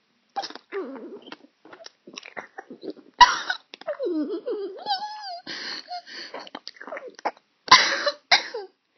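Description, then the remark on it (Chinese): Breathy moaning and whimpering vocal sounds give way to two sharp, loud coughs, one partway through and another near the end, each a harsh burst standing out from the softer noises; the two coughs are added at the end, imitating choking. “就是完事儿要加两声咳嗽，好像被抢到一样”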